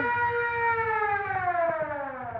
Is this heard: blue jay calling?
no